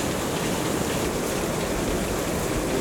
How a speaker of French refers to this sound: Et le son presque guttural d'une cascade balayée par le vent retentit.